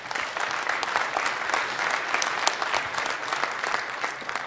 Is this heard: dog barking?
no